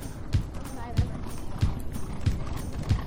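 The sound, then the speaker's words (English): The racehorse Mo Heyman's hooves pound past in five heavy, evenly spaced thuds, a steady galloping rhythm over a constant bed of background noise with faint voices underneath. “Yeah, you're going to be able to hear him right here when he comes by.”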